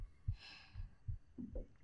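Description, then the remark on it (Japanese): A heavy heartbeat thuds steadily, about five beats in under two seconds, with a soft breathy hiss drifting in near the start. “心臓の音すごいわね。”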